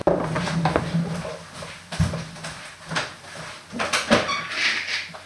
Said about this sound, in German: Und da kratzt es an der Tür und ich muss jetzt erstmal den Pauli wieder reinlassen.